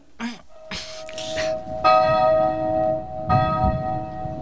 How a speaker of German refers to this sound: Wir läuten die Glocken. Los, packt mit an. Helft mir.